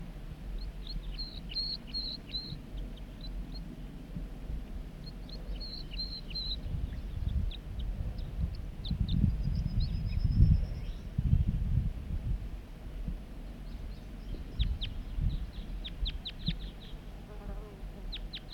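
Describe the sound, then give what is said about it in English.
A wild male bird sings short, high, twittering phrases at intervals from the top of a big dead snag, over a steady low buzzing rumble, with scattered thin chips toward the end. “He's singing now from the top of that big dead snag.”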